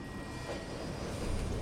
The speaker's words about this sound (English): The metro slows to a stop. The automatic doors open.